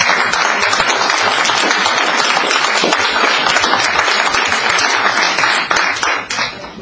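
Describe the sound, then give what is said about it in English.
A crowd of people at a council meeting applauds to recognize staff members, with dense, steady clapping that stays loud throughout and begins to thin out and fade in the final second. “I'd like the council to recognize those people with applause as well.”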